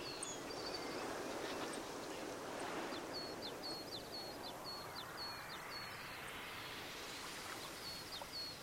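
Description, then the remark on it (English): Ducks swimming slowly on a lake in the morning sun chatter in a quick run of short, soft calls midway through, set against a steady wash of lapping water and gentle background noise; no one speaks. “Some ducks also begin their day now, likewise, and swim chattering slowly next to me.”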